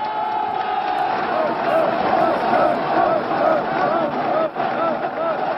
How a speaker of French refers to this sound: La foule applaudit, une foule de 100 000 personnes, triées sur le volet par peur de terrorisme, mais aussi pour éviter que les enregistrements des discours soient accompagnés de sifflets.